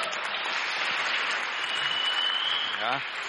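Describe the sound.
Steady audience applause, a dense wash of many hands clapping at an even loudness throughout, with a brief voice surfacing faintly near the end.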